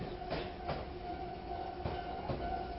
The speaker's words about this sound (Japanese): まもなく貝塚、貝塚終点です。お忘れ物のないようにご注意ください。今日も西鉄電車をご利用いただきましてありがとうございました。